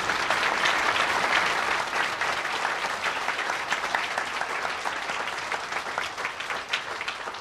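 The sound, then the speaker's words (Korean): A church audience at a year-end event applauds the church school children, from the infant to the high school department, along with ministers and teachers. Steady applause for about seven seconds: many hands clapping in a dense, even roar that stays loud throughout and eases only slightly toward the end. “우리 교회학교 영아부에서 고등부까지 오늘 수고한 우리 어린 자녀들 그리고 교역자들, 선생님들 우리 모두 박수 한번 쳐주십시오.”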